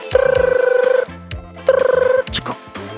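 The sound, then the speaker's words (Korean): A telephone rings twice as a call is being connected, each ring a bright, rapidly trilling burst about a second long, loud, with a soft background tune continuing underneath and a short clatter afterward. “네, 전화 연결해 볼게요.”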